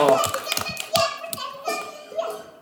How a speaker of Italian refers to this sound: Oh, un applauso!